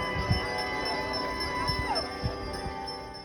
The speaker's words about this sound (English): A similar scene unraveled at the First Presbyterian Church, where church leaders rang bells in support of the protesters.